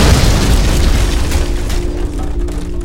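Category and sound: sound effect, dynamite explosion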